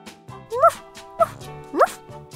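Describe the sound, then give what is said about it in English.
A small dog gives three short, high-pitched yapping barks, evenly spaced about half a second apart, clear over a faint steady musical background. “is the small dog, says the man.”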